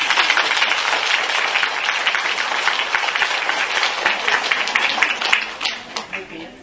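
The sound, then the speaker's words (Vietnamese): An audience breaks into sustained applause, dense and steady clapping from many hands that holds for several seconds before thinning out and tapering off at the end. “Như vậy cho ổng một tràng pháo tay.”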